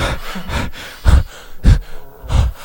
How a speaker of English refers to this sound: Gasping for breath.